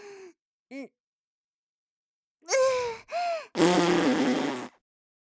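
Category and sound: human body sound, fart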